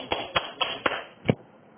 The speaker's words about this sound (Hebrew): כלומר, הצלחנו להעביר דרכנו, את החסדים ואת הגבורות. אז אנחנו מוחאים כפיים. למה מוחאים כפיים עכשיו, הבנתם?